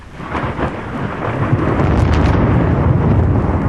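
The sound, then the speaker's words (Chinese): A deep, rolling thunder rumble after lightning builds and sustains for several seconds, loud and broad, with a steady roaring low end and a hiss of rain layered over it. “咻咻，闪电嗖嗖地飞过，一、二、三、四、五、六、七、八。”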